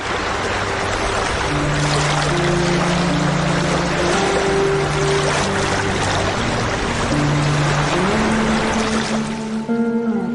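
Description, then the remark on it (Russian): The motor of a rented river boat, travelling north from Tomsk, drones steadily across the water. Its engine pitch holds and then shifts upward near the end, with broad splashing and rushing water throughout. No one speaks. “Летом они арендовали в Томске речной катер и поплыли на север.”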